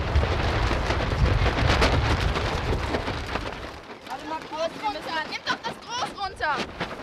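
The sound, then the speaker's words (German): Heavy, blustery wind roars and buffets into a sail of children's sailing boats at the beach on the Elbe in Wedel for several seconds, then eases as voices begin talking over it. “Der Wind bläst ihnen voll ins Segel.”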